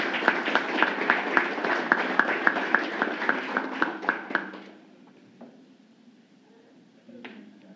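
An audience at a ceremony of the Araguari City Council (Câmara Municipal de Araguari), Brazil, applauds a man honored for the Receita Federal virtual service in the city, for about four and a half seconds: a dense crackle of many hands with some sharper, evenly spaced claps, then it fades quickly to a quiet murmur and a few faint knocks.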